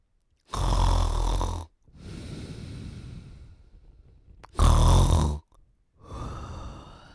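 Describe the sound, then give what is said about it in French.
A wolf snores: two loud, rasping snores, each followed by a softer, breathy exhale, forming a slow, steady sleep rhythm with no talking. “Le loup se mit à ronfler.”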